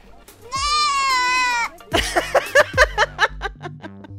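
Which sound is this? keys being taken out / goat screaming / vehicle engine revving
goat screaming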